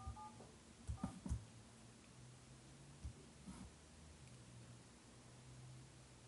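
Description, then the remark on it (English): Faint telephone dialing tones as a caller dials back after a phone call ended: a short pair of beeps at the start, followed by a few soft clicks and thumps over steady background hiss, with no one speaking. “Hold on, I think the phone call just ended. I'm calling back.”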